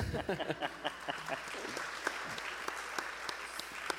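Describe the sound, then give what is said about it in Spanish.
An audience at a Hay Festival event breaks into steady applause for a guest chronicler and author, a dense wash of many hands clapping at a constant level for several seconds, with a voice heard briefly at the very start. “Para el aplauso, digo.”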